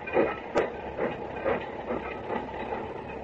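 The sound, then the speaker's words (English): A train rolls steadily along the rails, its wheels clacking in a regular rhythm over a continuous rumbling hiss, with no voices. “1 minute on the train and it's already feeling like a 1 year.”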